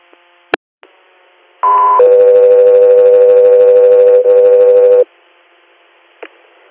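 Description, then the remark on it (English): Loud two-tone radio dispatch alert for the air unit Scout 3 Air: a short higher steady tone followed by a long lower sustained tone lasting about three seconds, with brief clicks and radio static before and after. “Scout 3 Air, stand by for tones.”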